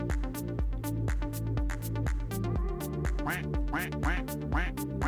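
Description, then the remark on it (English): A rapid, rhythmic string of soundboard duck quack sound effects plays loud, dozens of quacks repeating almost like a beat over a steady low tone, with no talking. “I will fucking have as many duck noises as I want without the corporate dogs sniffing around.”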